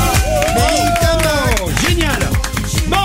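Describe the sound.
A loud, steady burst of audience applause, dense overlapping clapping mixed with whoops and cheering voices rising and falling throughout.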